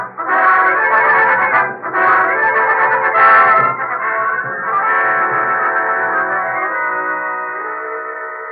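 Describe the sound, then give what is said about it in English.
A telephone rings loudly in several ringing bursts, the last one trailing off into a long fading tone, with no one speaking. “Ain't that your phone, Moran? What did you think it was, Axe? An alarm clock?”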